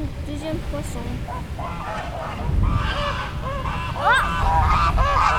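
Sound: geese honking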